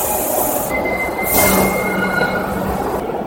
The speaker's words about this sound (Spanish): Vamos a dejar pasar este tren. Quiero dejar pasar un poco los trenes porque el ruido es ensordecedor cuando pasan los trenes, y yo creo que merece la pena que por lo menos nos enteremos de lo que vamos hablando.